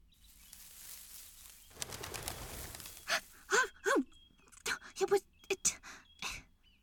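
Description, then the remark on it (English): A quail bursts into flight with a short, whirring flurry of wingbeats, then a person lets out startled gasps and breathy vocal noises. “It was a quail.”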